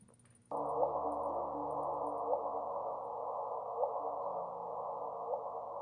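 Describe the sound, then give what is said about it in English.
A sonified black hole merger chirp: a steady, hissing electronic tone with a short rising blip recurring about every second and a half, four times in a row, with no voices. “We have the chirp.”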